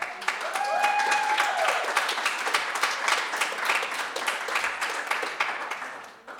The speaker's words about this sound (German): Applaus, bis er hier ist.